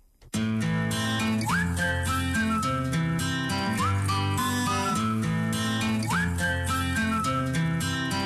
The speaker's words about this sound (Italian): a volte le canzoni le ricordiamo anche solo per un fischietto, come nel caso di …